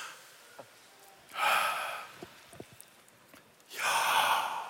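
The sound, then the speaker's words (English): Two broad, breathy swells of many people in a room breathing together on instruction, a long collective deep inhale and then an exhale, separated by a quieter gap with faint scattered clicks and shuffles. “Everyone take a deep breath in. Take a deep breath out. Listen to the breathing around the room.”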